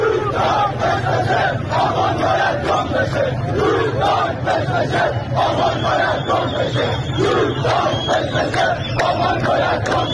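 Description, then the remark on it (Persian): A large crowd of protesters in Dezful chants slogans in unison, loud and steady with a repeating rhythmic cadence, voices blending into a dense roar for the whole stretch. “اینم گوش بدین، بازم مربوط به اعتراضات دسفوله.”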